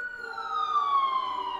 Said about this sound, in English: I'm right off of Amsterdam Avenue, which is the thoroughfare to the hospital. So, to Mount Sinai. Here we go. Hear it? That's a normal siren.